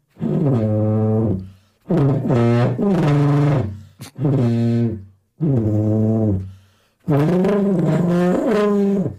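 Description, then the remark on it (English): A voice bellows a film theme tune in six loud, sustained, gravelly phrases with short pauses between them, the rough growling tone making it sound more like a dinosaur roar than a melody. “I sound more like a dinosaur than I do the actual theme tune, though, don't I?”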